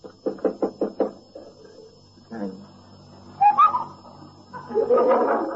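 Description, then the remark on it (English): A quick, steady run of about five knocks on a bedroom door, clear, followed by quieter muffled shuffling and brief indistinct vocal sounds. “Lock on his door. He'll probably still be in bed.”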